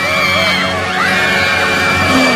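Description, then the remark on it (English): Shrill, piercing screams like a group of children, loud, with wavering pitch that rises and falls continuously through the whole stretch, several voices overlapping. “That sounded like screaming children, but it's not my birthday.”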